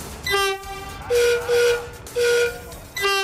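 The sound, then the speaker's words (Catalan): The horn of a new Rodalies commuter train in Catalonia sounds in a series of five loud, short blasts, alternating between two steady tones with brief pauses between them, with no talking. “Bé, de moment hem vist el xassis exterior, perquè encara s'han d'acabar els interiors, però de moment us podem deixar escoltar la bocina. Així sonaran els nous trens de Rodalies.”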